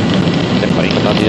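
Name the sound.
rain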